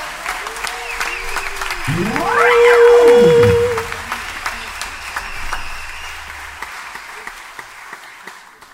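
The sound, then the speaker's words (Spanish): An audience applauds steadily for Juan Manuel Cola, the orchestra's sound engineer, a dense crackle of many hands that swells loudest around the middle, where a sliding whistle-like cry rises and falls, then the clapping gradually thins and fades. “Juan Manuel Cola, un aplauso para él.”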